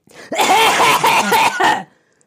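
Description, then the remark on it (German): A burst of loud, forced coughing, several harsh coughs run together over about a second and a half before stopping abruptly; a person coughs loudly on purpose, in the same room, to test whether the cough is still heard with the cough (mute) button pressed. “Mach mal Abhustaste und ich huste so laut, dass man mich trotzdem noch hört.”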